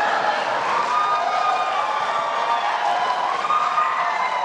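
audience applause and cheering

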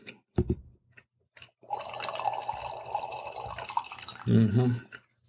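wine being poured

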